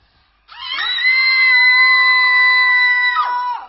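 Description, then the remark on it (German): A person imitates a screaming cat with one long, loud, strained wail that holds a steady pitch for about three seconds before breaking off with a sharp downward squeal. “Und wenn wir schon bei Tieren sind, die sind natürlich immer gute Gefährtinnen, Hilfsmittel, nicht nur Hilfsmittel, sondern eben auch als Katze. Naja, doch die Katze.”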